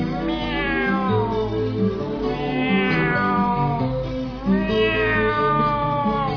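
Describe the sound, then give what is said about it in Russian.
Cats yowling on moonlit rooftops in long, nasal, wavering wails, three drawn-out cries rising and falling one after another, loud with no pauses of silence between them. “Порвав насквозь лимонно-серый опасный конус высоты, на лунных крышах, как химеры, вопят гундосые коты.”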